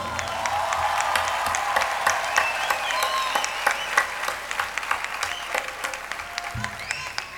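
A crowd applauds a singer's voice after a song, clapping steadily for several seconds. It is a dense patter of many hands clapping at once, with sharp individual claps standing out, fairly loud throughout with no talking.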